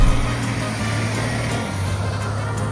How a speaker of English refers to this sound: All right, here we go. Off-road in a school bus. Let's see what happens.